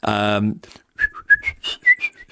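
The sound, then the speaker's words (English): A brief voiced tone gives way to a quick run of short, high whistled notes at the pitch of a top F, clear, chirping out one after another without any talking. “That note. Which you can whistle.”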